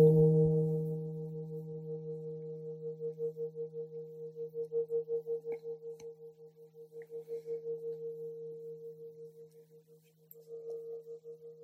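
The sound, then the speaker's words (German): A single gong strike, the third gong of a guided meditation, rings out alone, its low, steady tones sustaining for over ten seconds with a slow, wavering pulse as the resonance gently fades and swells. “Beim dritten Gong reck und strecke ich mich liebevoll, öffne die Augenlider.”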